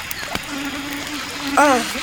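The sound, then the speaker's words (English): A thin, steady mosquito buzz hums faintly for about a second by a woodland riverbank, followed by a brief wavering vocal sound near the end. “Did you know that mosquitoes can cause disease?”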